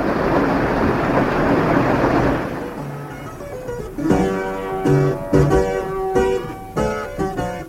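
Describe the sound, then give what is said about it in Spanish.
A steady wash of falling rain hisses loudly for about three seconds, then fades as gentle music with distinct, ringing notes takes over. “Enseguida se puso a llover y tuvo que salir el criado y entrar dentro del palacio a la calandria.”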